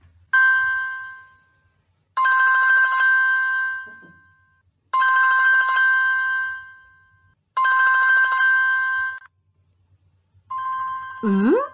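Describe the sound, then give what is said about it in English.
A telephone rings for an incoming call, four loud electronic trill bursts with steady pauses between them, before a brief swooping tone at the end. “There's a caller on the phone.”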